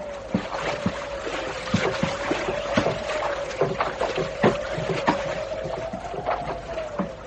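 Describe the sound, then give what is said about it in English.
A fleet of small rowboats packed with men approaching on the water: irregular splashes and wooden knocks from oars or hulls come thick and overlapping, as if several craft move at once, over a steady low droning hum. “There's a fleet of small boats coming up.”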